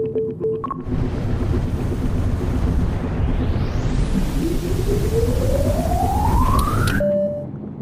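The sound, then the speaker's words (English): A loud, steady roar of whooshing engine noise with a rising electronic whine that climbs in pitch over several seconds, then cuts off abruptly: a sound effect of an air taxi, a flying car rather than a helicopter. “It's not quite a helicopter. It's an air taxi. It is a flying car.”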